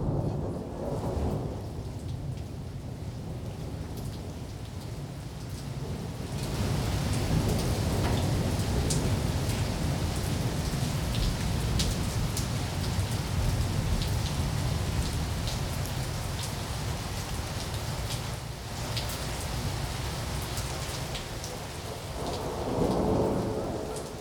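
Steady heavy rain pours down while deep thunder rumbles and rolls continuously underneath, swelling louder partway through, with no voices present.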